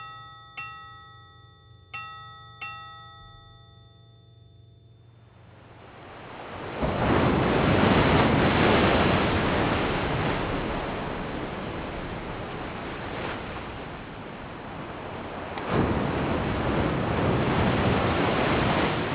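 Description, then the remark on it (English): A few ringing, bell-like tones fade out, then loud ocean waves roll in on Casco Bay, Maine, with a steady, broad wash of surf that swells again near the end, on a brisk, sunny morning. No voices. “Casco Bay, Maine, part of the thousands of miles of coastal bays and inlets in this state.”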